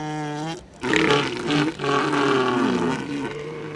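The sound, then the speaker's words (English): A loud elephant seal roar at Año Nuevo State Park in Northern California: a brief droning tone gives way to a harsh, gurgling, belch-like bellow that pulses for about three seconds, with no voices. “They're huge, they're fat, they stink, they lay around in piles napping all day, and they belch operatically at strangers.”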